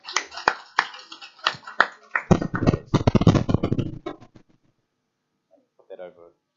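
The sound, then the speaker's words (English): Scattered hand claps build into a dense, loud round of audience applause that fades out quickly, followed by a short pause and a brief voice speaking. “Give her a clap.”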